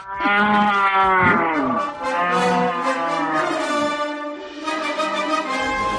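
Several cows moo loudly, their long, drawn-out calls overlapping and rising and falling in pitch, filling the whole stretch with no one speaking.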